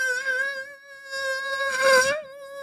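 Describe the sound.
A voice imitates a mosquito, holding a thin, steady, high-pitched whine for nearly three seconds, with a brief breathy swell near the end, fairly loud, with no other sounds.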